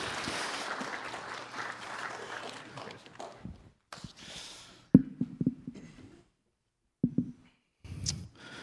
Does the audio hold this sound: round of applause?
yes